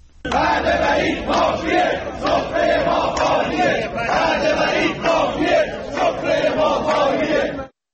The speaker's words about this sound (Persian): بر اساس ویدیوهای منتشر شده در شبکه‌های اجتماعی، پرستاران در شهرهای یزد، فسا و مشهد تجمع اعتراضی برگزار کردند و در شعارهایی خواستار رسیدگی به مطالبات صنفیشان شدند.